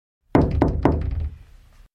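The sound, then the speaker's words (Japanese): Three quick, firm knocks on a fitting room door in a clothing shop, made by someone waiting outside for their turn, evenly spaced, followed by a short fading resonance with no voices. “外で順番を待っていた誰かのノックの音に主人公はハッとし、慌てて外に出ました。”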